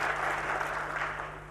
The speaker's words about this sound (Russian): А чему вы аплодируете?